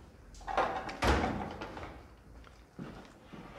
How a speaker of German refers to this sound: Wenn Sie aber, obwohl jetzt hier abgeschlossen ist, ich drehe dieses Schloss mal rum.